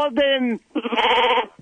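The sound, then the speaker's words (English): Two loud bleats, a short nasal one followed by a longer wavering "baa," apparently a human voice imitating a sheep rather than an actual animal. “Why are you so good at repeating sheep?”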